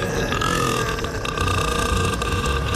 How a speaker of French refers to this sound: Qui peut produire des rots de 110 décibels.